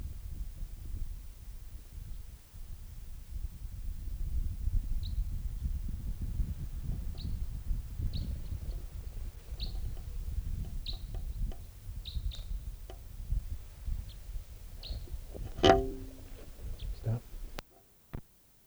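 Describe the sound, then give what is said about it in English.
A type 3 bird call, recorded and logged as bird number 615: faint, short, high-pitched chips repeat every second or so over a steady low rumble, then one louder, sharper call comes just before the end. “Recording that type 3 who was just calling there was collected, and it'll be bird number 615.”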